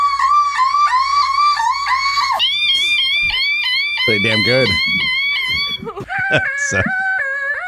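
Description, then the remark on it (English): A woman vocally imitates a car alarm for the car alarm challenge, with loud, high-pitched warbling tones and rapid rising and falling whoops that repeat in bursts. A short spoken comment breaks in partway through. “Ladies that are doing the car alarm challenge.”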